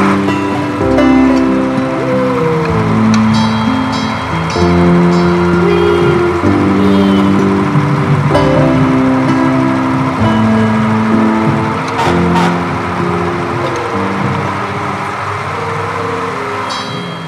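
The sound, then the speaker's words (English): A big fire truck rumbles steadily along in a parade, its loud engine droning with shifting tones and a wash of street noise for the whole stretch, with no one talking. “how did you like riding on the fire truck during the parade?”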